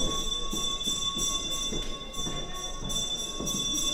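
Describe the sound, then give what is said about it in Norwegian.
A theatre foyer bell rings continuously, a steady, shrill electric tone that holds without pause for several seconds over a low background murmur, calling the audience from the foyer to find their seats as the performance is about to start. “Nå ringer bjellen. Det betyr at nå må ikke folk somle mer i foajeen, men finne plassene sine.”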